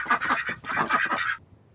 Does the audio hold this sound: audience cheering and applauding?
no